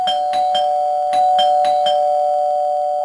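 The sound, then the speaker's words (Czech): A doorbell rings loudly for about three seconds on a calm Friday afternoon in December, a steady bright tone with a rapid rattling pulse running through it. No one speaks. “najednou se ozval zvonek.”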